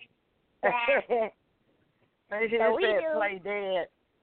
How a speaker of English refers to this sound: Look, there's a sheep. I don't know what kind it is, but the sheep can play dead.